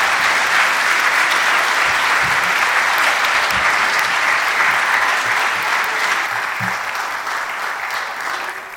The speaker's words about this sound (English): Well, we're not quite done yet, but let's just give these kids a great round of applause.